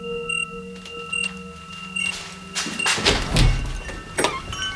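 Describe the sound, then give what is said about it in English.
A door is opened partway through, with a muffled clunk and rattling handling noises, set against a steady, faint electronic tone with short beeps; no one speaks. “The door.”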